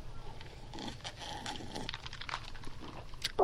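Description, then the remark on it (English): Someone takes a sip of Steel Reserve high-gravity lager: a run of small wet slurps and can clicks over quiet room noise, ending in a brief louder swallow-like burst, with no one speaking. “Please hold while I take a sip of this Steel Reserve.”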